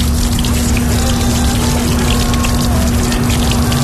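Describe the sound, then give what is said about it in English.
Water runs and splashes steadily from a hand-washing dispenser with soap inside, set up in a taxi for COVID-19 safety, while an electric pump hums underneath at a constant pitch, continuous throughout with no voices. “There's already soap inside, right? Yeah. Then the water.”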